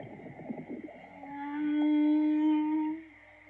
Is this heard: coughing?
no